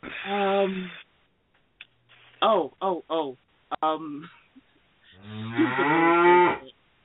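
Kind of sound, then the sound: sound effect, cow mooing sound effect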